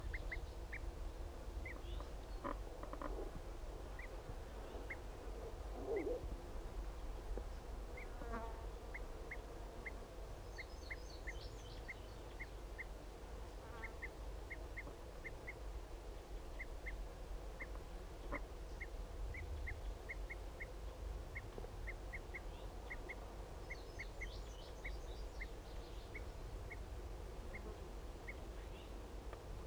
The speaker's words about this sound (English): Start recording those males are back. Start recording those both of those males giving flight calls.